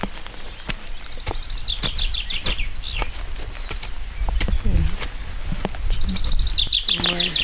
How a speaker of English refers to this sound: And the bird's amazing.